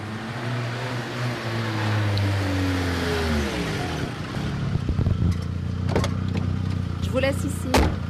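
A car engine hums steadily, its pitch sliding down as the vehicle slows, then settling into a low idle with a few sharp clicks and knocks near the end.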